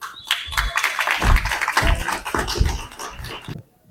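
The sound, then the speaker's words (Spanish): An audience at a symposium in memory of Ricardo Flores Magón breaks into applause to welcome a speaker, a dense, steady patter of many hands clapping together for about three and a half seconds before it cuts off. “Recibamos a nuestro compañero con un aplauso.”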